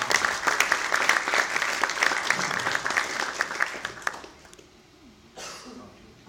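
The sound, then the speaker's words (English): A burst of audience applause, dense and steady clapping that fades out after about four seconds, followed by a brief quieter rustle. “Give her a round of applause and leave the first position.”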